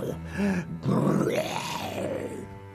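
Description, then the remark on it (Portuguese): A lion roar: one deep, rumbling growl that swells into a rough, loud bellow and then slowly trails off over about three seconds, with no talking. “E num piscar de olhos, o bruxo se transformou num gigantesco e temível leão.”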